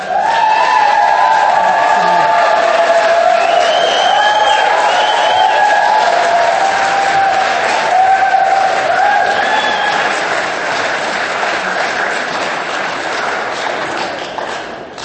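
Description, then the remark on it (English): A crowd applauds and cheers the youth steadily for about fifteen seconds, dense clapping mixed with high whoops and shouts, staying loud throughout and easing off only slightly at the end. “Huge round of applause for our youth!”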